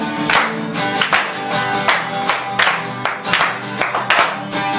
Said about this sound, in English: Oh, let's give him a hand clap. Let's praise him. Let's give him a clap offering.